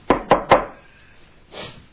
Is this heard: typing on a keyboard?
no